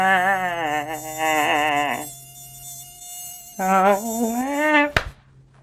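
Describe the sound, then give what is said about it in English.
A mosquito flying next to the ear gives a thin, high-pitched whine that wavers up and down in two long, loud bursts with a quieter pause between them, then ends abruptly with a sharp click. “But the one thing I will miss is when they fly next to your ear at night,”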